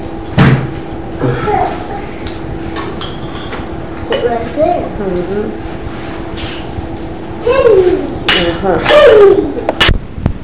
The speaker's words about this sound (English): Just taking the booster off the big chair.